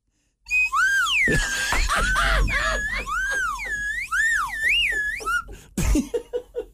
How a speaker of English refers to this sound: I might have a slide whistle.